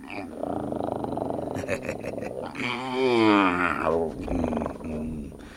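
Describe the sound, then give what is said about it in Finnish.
A bear growls, a low rumbling snarl that swells into a louder, drawn-out roar midway before settling back into deep grumbling. “Äläkä päästä karhua irti.”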